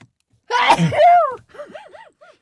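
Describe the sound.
One loud sneeze, sneezed onto another person's jacket, bursts out with a voiced, drawn-out finish, followed by a few soft, sing-song vocal sounds trailing off afterward.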